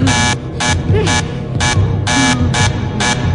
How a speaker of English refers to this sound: it's the woman at the door and the buzzer, the bam, bam, bam, bam